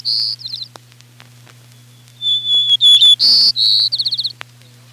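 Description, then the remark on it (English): A white-crowned sparrow sings: a few clear, plaintive whistles followed by a quick jumble of sweet buzzy notes and a short rapid trill, over a faint steady low hum. “The white-crowned sparrow's song begins with some plaintive whistled notes and then breaks into a jumble of sweet, buzzy notes.”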